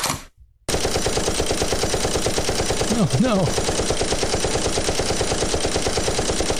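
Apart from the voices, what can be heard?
gunfire sound effect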